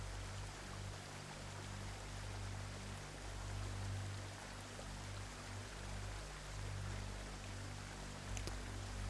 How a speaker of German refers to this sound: Du hörst die Geräusche des Wassers ganz gleichmäßig, aber nie gleichförmig. An deinen Beinen spürst du weiterhin das sanfte Strömen des Flusses.